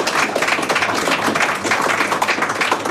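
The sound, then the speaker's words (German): Steady, dense clapping fills the whole three seconds, a rapid patter of overlapping hand claps that sounds like a small group applauding, with no voices on top. “Wirklich, da darf man mal klatschen, oder?”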